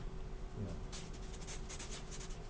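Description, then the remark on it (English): A computer mouse slides across a desk in a run of short, soft, quiet scraping strokes over a low background hum. “Yeah, just a mouse.”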